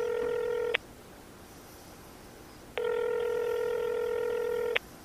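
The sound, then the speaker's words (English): A telephone line rings back through the earpiece after a toll-free number is dialed: two long, steady electronic buzzing tones separated by a silent pause, clear and fairly loud, with no voices. “Ringing.”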